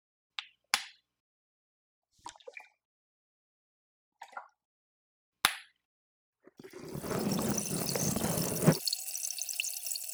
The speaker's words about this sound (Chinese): 接下来一样，使用特制的气泡水涂抹在耳道里面。